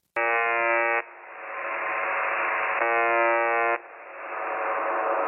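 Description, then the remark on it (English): A harsh, droning buzzer from a radio signal that plays 24 hours a day repeats in a loop: two short, flat tonal blasts about two seconds apart, each followed by a hiss of static, with no voices present. “So if you go to this, signal and you start listening to it, it's just this loop of this buzzer sound and it's fucking bizarre.”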